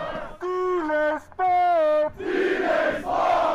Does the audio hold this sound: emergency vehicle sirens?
no